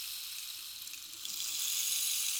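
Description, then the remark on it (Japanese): A rain stick pours out a steady, bright, hissing patter of tiny pellets, like light rainfall, growing slightly fuller partway through. No one speaks. “綺麗な音。まるで雨音のようだろう。これはレインスティック。”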